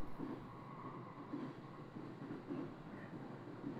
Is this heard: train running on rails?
yes